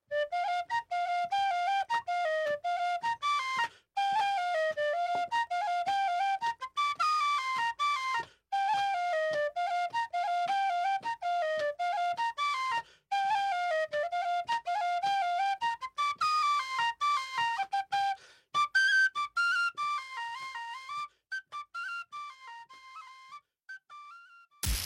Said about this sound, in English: Here's a little bit more tin whistle.